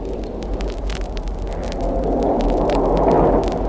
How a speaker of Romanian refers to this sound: Plouă! Mi-e frică!